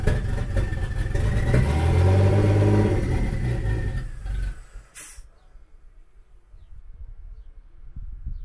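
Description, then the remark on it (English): An untuned car with a T67 turbocharger idles with an open downpipe, its muffler pipes not connected: a loud, deep, raspy rumble that swells, then drops after a brief sharp burst to a quieter, uneven burble. No one speaks. “So the car is just idling and it hasn't been tuned, and it has an open downpipe, so the muffler pipes are not connected.”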